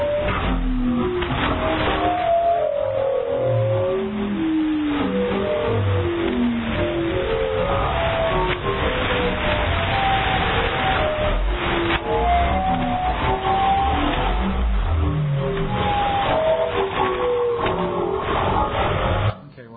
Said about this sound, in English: I had that a little longer than I should have. Some people also call that a whale call station for obvious reasons. And a lot of people were kind of interested in that one just because it's so weird. That's why I recorded it to begin with.